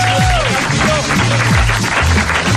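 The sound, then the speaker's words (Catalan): Loud, steady audience applause for a contest winner picked by the number 7 fills the whole stretch, a dense wash of clapping hands, with a few cheering voices rising and falling over it. “Doncs el Javier, un fort aplaudiment per Javier.”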